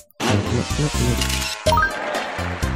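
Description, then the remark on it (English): A buzzy square-wave synth drone like a retro video game car engine, made with the square-wave generator, loud and steady with a harsh harmonic rasp, pulsing slightly and briefly rising in pitch near the end. “So it actually makes use of the square generator.”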